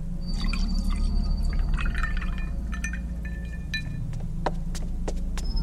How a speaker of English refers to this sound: ran to the fountain and poured me a glass.